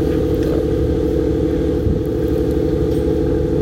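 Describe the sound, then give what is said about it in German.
A small motorboat engine drones steadily throughout, a loud, low, continuous rumble with a constant pitch and no pauses, with no voices. “Ja, es ist ein kleines Motorboot.”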